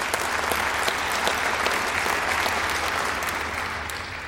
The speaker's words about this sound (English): And yes, you may clap.